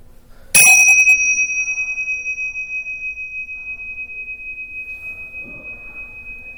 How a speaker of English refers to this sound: And when I sound the bell, we'll start the meditation and focus on our breath.